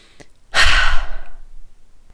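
A person takes a very deep breath: a faint breath in, then a loud, forceful exhale that rushes out for about a second, breathy like a heavy sigh, fading away afterward. No talking.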